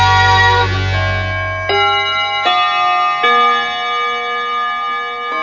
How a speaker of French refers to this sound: Au coucou de Radio Bonheur et au carillon.